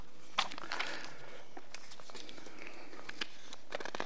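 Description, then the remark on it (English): Rustling and crinkling of two bits of paper, with a run of sharp crackles and soft rubs spread unevenly over a few seconds, quiet, with no voices. “2 bits of paper here.”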